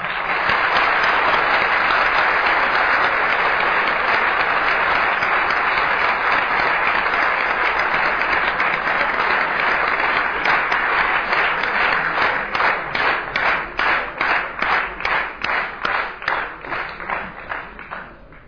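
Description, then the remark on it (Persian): A large audience applauds steadily and loudly in honor of a veteran Iranian army brigadier general pilot of the eight-year war, the dense clapping later thinning into a rhythmic, synchronized beat of distinct claps before fading near the end. “مثل یک اسطوره تشویقشون بکنید.”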